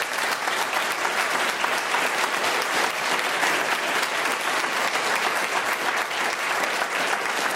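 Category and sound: crowd, audience applause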